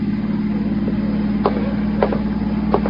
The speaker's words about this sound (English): No, there's a car out there. It's been following me for the last 200 miles.